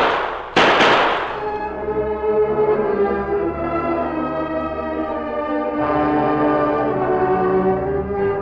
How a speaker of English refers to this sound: And only six bullets. I'll fire three now, three more later, and pray that someone's near enough to hear.